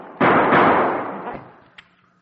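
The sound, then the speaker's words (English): Loud, booming gunshots, two blasts close together with a long rumbling decay, followed by a couple of faint sharp clicks as the gun runs out of bullets. No one speaks. “Oh, that's all the bullets.”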